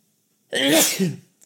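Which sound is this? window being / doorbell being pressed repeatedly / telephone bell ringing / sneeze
sneeze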